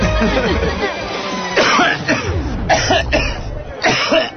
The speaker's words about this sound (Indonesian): Papa, batuknya semakin parah tuh.